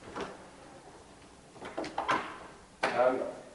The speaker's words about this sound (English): I'm just going to open the door as you speak.